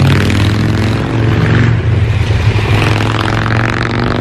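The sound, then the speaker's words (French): Deep, throbbing rumble of twin-cylinder chopper motorcycles approaching in the distance on the road outside, a steady loping engine drone with a slight rise and fall that fills the whole stretch, with no voices. “un bruit caractéristique de moteur bicylindre qu'on retrouve sur des motos de type chopper qui commencent à arriver au loin.”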